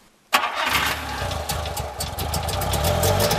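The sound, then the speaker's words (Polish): An old Syrena car engine catches abruptly after a brief silence, then settles into a loud, uneven idle with a rough, rapid putter and rattly ticking on top. “To jest niesamowite, że te auta palą od dotyku w zasadzie.”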